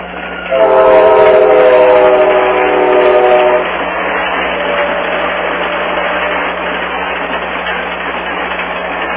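An Amtrak passenger train from Chicago to California rumbles past between 2 and 2:30, its horn blaring in a loud sustained blast for a few seconds before the steady roar and rattle of the cars continues alone.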